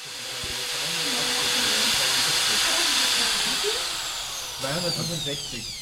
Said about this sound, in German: 1800 Watt, der Heizlüfter. Das ist ein kleiner Heizlüfter, genau.